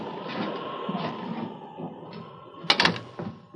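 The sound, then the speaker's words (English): An unlocked door is opened during a storm, with a short cluster of sharp clicks and rattles near the end, over a steady rushing background noise. “Wait. The door's unlocked.”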